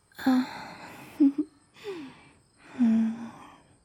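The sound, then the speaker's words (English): Several breathy exhalations and sighs right up against the microphone, soft and airy with a slight voiced edge, coming in uneven bursts with short pauses between them. “You feel me breathing up close?”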